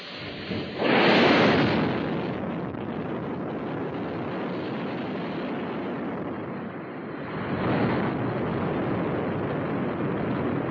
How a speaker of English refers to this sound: Here's how it all went down. GLS is go for core stage engine start.